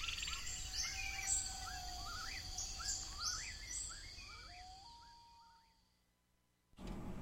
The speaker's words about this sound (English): A new year dawning with bird calls.